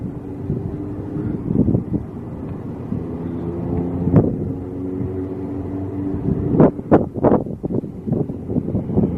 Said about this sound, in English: Slow down! Fucking prick car. Going fucking 60 miles an hour down the fucking road.